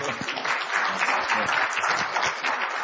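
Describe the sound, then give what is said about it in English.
An audience claps steadily for a few seconds, a dense, even patter of many hands at a fairly loud, constant level with no voices standing out, for a woman who has just shared her faith journey. “Give her a clap.”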